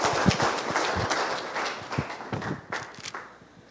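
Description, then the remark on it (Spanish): A crowd applauds the project presenters with dense, crackling clapping that holds steady for a few seconds, some sharper individual claps standing out, then begins to thin and fade toward the end. No voices. “Un aplauso para los proyectos, por favor, los expositores, ¿no?”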